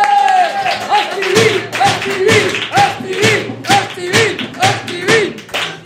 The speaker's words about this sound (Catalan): rebem un fort aplaudiment al doctor Estivill!